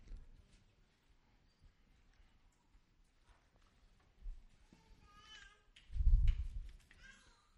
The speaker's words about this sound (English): Isn't it cool to hear a little baby in the middle of church? It's like hearing birds outside. It's so cool.